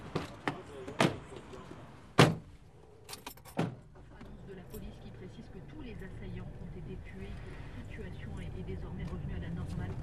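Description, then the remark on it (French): Someone gets into a car in Abidjan to drive to the Anono market in Riviera: a few clicks and rustles, a loud door slam, then more thuds as a second door shuts. A low, steady engine rumble follows. “On prend la voiture ? Oui, on prend la voiture.”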